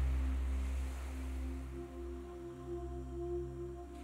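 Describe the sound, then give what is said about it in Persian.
Gentle ocean waves wash onto the sand of a coral beach in a soft, continuous rumble, blended with a steady low humming drone. No one speaks. “روی شنهای ساحل کنار دریا دراز کشیدید و امواج آروم دریا پاهای شما رو لمس میکنه.”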